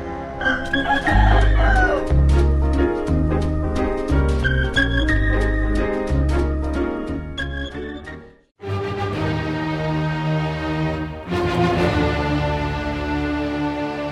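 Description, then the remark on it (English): Rhythmic chicken clucks and squawks are arranged into a loud musical tune over deep, steady bass notes, broken by a brief pause before the melody resumes. “Why did Beethoven get rid of all his chickens? Why? Because they kept saying, bawk, bawk, bawk, bawk, bawk, bawk, bawk, bawk, bawk, bawk, bawk.”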